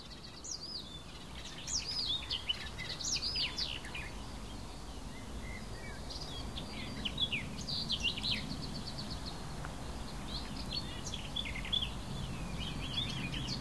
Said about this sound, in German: das war doch mal eindeutig ein Rot-Milan.